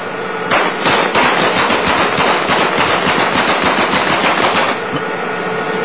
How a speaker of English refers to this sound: Machine gunning the vehicle.